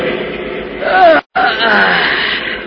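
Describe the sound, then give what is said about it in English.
A truck driver lets out a long yawn in the cabin of a huge truck on a highway leading into Metropolis in the evening darkness, a moaning voiced sound that rises and falls in pitch, broken by a brief pause midway, over a steady low background rumble. “In the cabin, the driver yawns, checks his watch, then turns to his helper, nodding on the seat beside him.”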